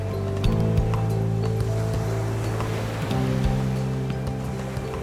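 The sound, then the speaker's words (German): Roaring sea surf washes steadily throughout, a continuous broad rush over a low, droning hum, with a few faint knocks scattered through it. “Er wird es später noch einmal probieren, draußen am brausenden Meer.”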